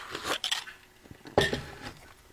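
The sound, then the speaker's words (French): A couple of short, airy slurps of coffee from a cup, with faint clinks of the mug being handled between sips; no one speaks. “Je vais prendre une gorgée de café, si ça vous dérange pas.”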